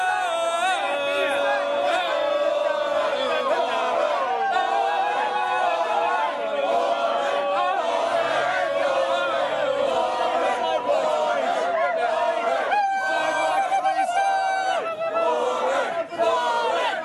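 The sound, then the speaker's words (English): A large crowd at an Elizabeth Warren campaign rally cheers "Warren, Warren" while Scott Brown's staff aides do tomahawk-chop war-cry whoops, many voices blending into a loud, steady roar of shouts and rising whoops for the whole stretch. “So you heard people cheering, Warren, Warren.”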